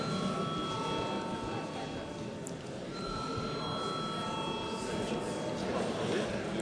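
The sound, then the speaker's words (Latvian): A parliament chamber bell rings before a vote on a bill in its second reading, in a steady, unbroken buzzing tone for several seconds, holding an even loudness, with a low murmur of voices underneath. “Lūdzu, paldies, lūdzu zvanu.”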